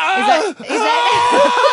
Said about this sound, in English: hooked up to a birthing machine. That's what you can hear, the screaming.